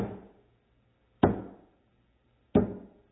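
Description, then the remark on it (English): Three sharp, solid knocks land about a second and a quarter apart, each ringing briefly before fading, struck to mimic a small metal mallet, a little sledgehammer, driving a nail. No one speaks. “And he had a small metal mallet, a little sledgehammer. And what he did was he held it there.”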